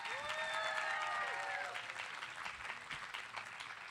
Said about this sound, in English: Please give one big final applause for everyone who presented tonight.